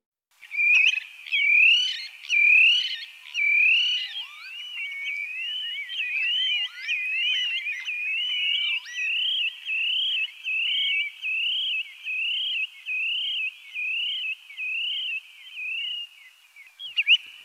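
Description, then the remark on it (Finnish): Spotted redshank calls: a few loud, sharp whistled notes, then a long, steady run of rapid, high, slightly rising whistles repeated in an even rhythm, with no voices. “Mustaviklo on kuin ritari tai klovni. Eri kielet luonnehtivat samaa lintulajia eri tavoin.”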